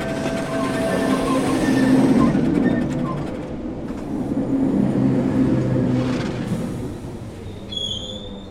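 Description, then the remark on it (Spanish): A train rumbles steadily with a low, continuous roar, then slows with faint metallic squeals near the end as it reaches the end of its line, pulling into its last station at the coast. “Y este tren ya está llegando a su fin.”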